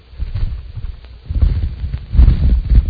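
A held cicada's wings buzz and flutter in a low, raspy rattle, coming in uneven bursts that grow louder toward the end, with no talking over it.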